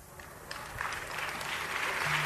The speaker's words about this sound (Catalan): Mira, enganxem els aplaudiments.